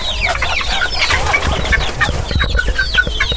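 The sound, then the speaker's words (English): Several Polish chickens cluck steadily, a busy overlapping stream of short, throaty clucks and brief higher squawks with no talking, like a flock of hens milling about. “That's how big our Polish got.”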